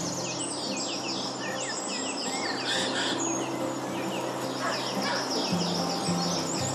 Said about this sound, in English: So we know that jays make this screeching kind of sound, like a magpie.